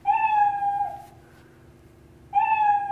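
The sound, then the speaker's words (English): A loud, cartoonish cat meow, a drawn-out tonal mew lasting about a second, then silence before a second meow starts near the end, played by an animated cat in a computer program when the mouse cursor is moved over it. “So here's the cat kind of minding its own business. Now I move my mouse, my cursor over it.”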